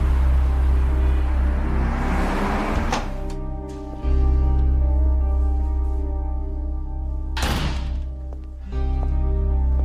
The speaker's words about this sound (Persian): حامد با ماشین رسید دفتر کارش.